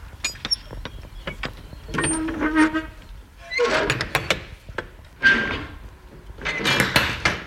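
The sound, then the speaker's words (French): Metallic clanks and rattling latches as the driver gets out and unlatches and swings open the heavy rear doors of his truck beside a semi-trailer, with scraping hinge noise and a couple of louder bursts, without speech. “Je descends pour ouvrir mes portes arrière.”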